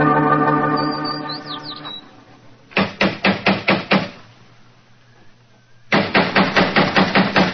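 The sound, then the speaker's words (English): Someone knocks on a door in two loud bursts of about six quick raps each, separated by a short pause, after a steady humming tone at the start. “If he's home, why the devil doesn't he answer the door?”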